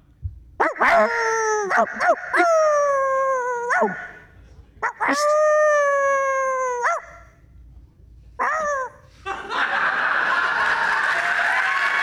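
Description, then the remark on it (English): A person imitates a dog as a performance act before judges, with sharp barks, long whining howls and yips, then ends in a harsh, noisy growl. No other talking is heard. “The facial expressions are not part of the deal, and I'm going to bark like a dog.”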